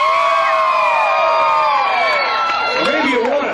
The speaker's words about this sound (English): Friends, the spirit of rock and roll grabs a hold of you tonight, and you want to scream a little bit. Let's hear you scream.